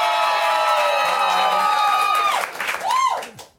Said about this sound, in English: Someone is screaming bloody murder out there.